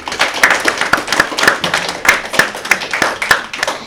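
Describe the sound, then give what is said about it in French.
An audience applauds quiz contestants after they score 360 points, with sharp overlapping hand claps forming a dense, steady patter that stays fairly loud for several seconds, no voices standing out. “On peut les applaudir.”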